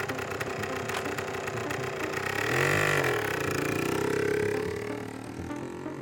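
An off-road motorcycle engine runs as it is ridden down Roshiko mountain, rumbling steadily before revving up in a rising, swelling whine and then easing back down, with no voices present.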